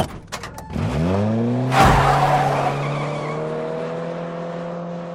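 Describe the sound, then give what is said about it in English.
A car driven by Dominic revs up and the tires screech in a sharp skid as it peels away, then the engine holds a steady, loud drone as it speeds off. No one speaks. “Dominic opens the door, drops the cloth on the ground, then speeds off.”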